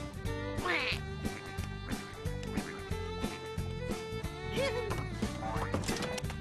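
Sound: duck quacking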